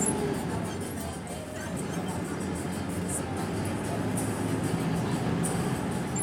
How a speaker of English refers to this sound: Here I am on 31st Street about to get onto the new bus.